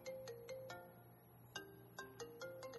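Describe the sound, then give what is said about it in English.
A mobile phone ringtone plays a short electronic melody of bright, sustained notes with crisp attacks, repeating in a quick pattern. It sounds fairly faint, with no voices. “I turned my phone on.”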